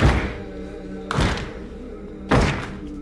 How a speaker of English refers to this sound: Suddenly, the man from the church steps on stage with his Stetson replaced by a set of antlers. Accompanied by a young woman in a black mask, he stamps his foot and starts a slow clap.